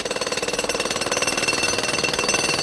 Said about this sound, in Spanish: En la actualidad, se suelen usar taladros rotativos que están sumergidos en un barro especial con el que se rellena el pozo a medida que este es perforado. Esto crea una presión que impide los escapes.